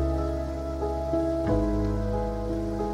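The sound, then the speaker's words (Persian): Steady rain falls at night, pattering continuously over a sustained, low tonal hum, with no voices; the wash of drops stays even and moderately loud throughout, with a slight swell near the middle. “به شب نگاه کرد، به هجوم تیره تنهایی در شب بارانی.”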